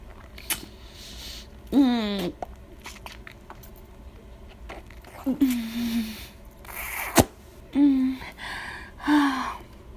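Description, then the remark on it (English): Several deep, low-pitched male moans and grunts come in short bursts, with breathy gasps between them. There is no talking, just a quiet background and a few soft clicks and rustles. “You're moaning and grunting and gasping so deep and manly.”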